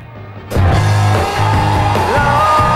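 Loud music bursts in abruptly, with people yelling and whooping over it in a sustained, raucous wall of sound, close and energetic.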